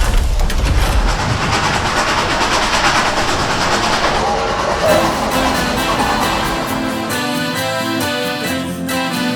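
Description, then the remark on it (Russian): Loud, steady clatter of train wheels rolling over rails, a rhythmic rumbling clack, with music fading in over it during the second half. “Бежали рельсы за вагоном, спускался вечер невзначай.”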